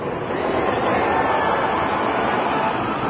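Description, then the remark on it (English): A loud, sustained rumbling roar of the North Tower collapsing, like a freight train bearing down, fills the whole stretch without a break. It is dense and steady, with no voices. “And then it sounded like a freight train rumbling and picking up speed.”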